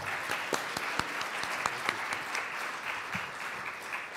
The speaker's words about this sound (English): I would like to have a round of applause for one of the greatest presentations I've ever seen in my life.